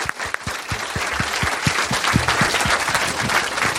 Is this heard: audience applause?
yes